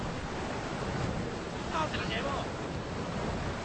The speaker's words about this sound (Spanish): ¡No! ¡No, no se va! ¡Se la lleva el río! ¡Agarrala, agarrala!